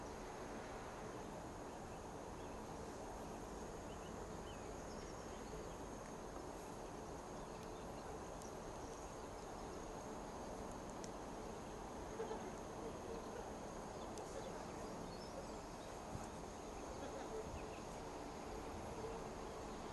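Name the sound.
railway station platform ambience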